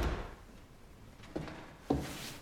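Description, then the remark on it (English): A door is opened and shut, heard as a soft initial rattle followed by two short, fairly loud wooden thuds about half a second apart, with no voices. “Charles goes through a door and walks across a room.”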